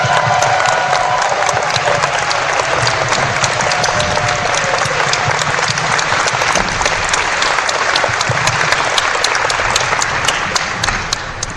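A large audience applauds the event's volunteers, clapping loudly and steadily for about twelve seconds, a dense wash of hand claps with a few whoops and shouts mixed in, easing slightly at the very end.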